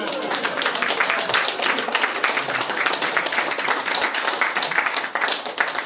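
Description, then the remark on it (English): A standing crowd breaks into sustained, loud applause for a couple's 57th wedding anniversary, many hands clapping in a dense, steady wash that holds for about six seconds, with a few voices and cheers mixed underneath. “An appropriate round of applause for them.”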